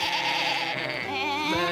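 A sheep lets out a long, wavering bleat, loud, with a trembling quality that shifts in pitch near the end before cutting off.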